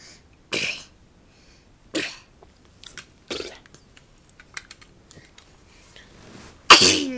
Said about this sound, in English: Oh, God bless you.